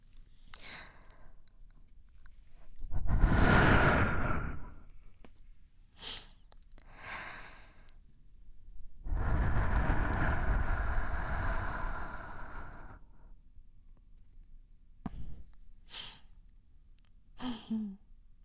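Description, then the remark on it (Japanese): Two long, airy breaths are blown softly into the ear during an ear-cleaning session, the second longer and steadier, with a few faint clicks and rustles in between and no talking. “どうよ、この私のありがたい吐息を。”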